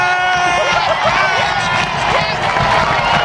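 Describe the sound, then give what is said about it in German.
A loud, dense crowd of Amriswil fans cheering at a match of second-division club Amriswil against Swiss champions Basel, a continuous roar with scattered whistles and higher excited voices rising over it, steady for the whole few seconds. “Das hat von den Amriswiler Spielern und Fans niemand wirklich mögen, weil einmal in die Amriswiler ja gleich auch dürfen jubeln.”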